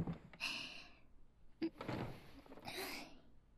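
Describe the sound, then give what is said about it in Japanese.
A chair scrapes across the floor and lands with a solid thunk, then drags and shuffles briefly again, as a borrowed chair from a classmate's seat is pushed up to face another chair. Fairly clear, with no voices. “じゃあ椅子を借りて、桐島くんの椅子と付き合わせて”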